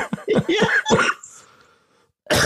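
cough

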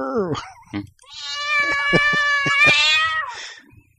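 cat meowing

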